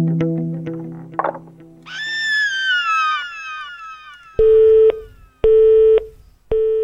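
A hurdy-gurdy warped by electronic filters: a low buzzing drone gives way to a slowly descending, whale-like wail, then three loud, abrupt, steady beeping tones with gaps between them.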